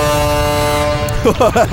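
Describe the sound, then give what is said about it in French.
A loud, sustained horn blast holds steady for about a second, then cuts out as a voice starts talking. “OK, je klaxonne, puis après, tu klaxonneras, OK?”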